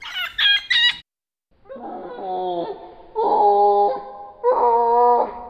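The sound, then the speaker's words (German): Monkey calls slowed down four times: a short, high-pitched burst, then three long, drawn-out low cries with abrupt yodel-like breaks in pitch, loud, with no talking. “Ja, sie sagen halt, vor allem, wenn man es so langsam macht, hört man, wie sich die Stimme der Affen so überschlägt.”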